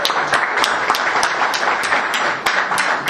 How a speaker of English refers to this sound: And a fantastic speech that I believe touched everyone there in the audience. So I would like for all of us to give him a round of applause for congratulations.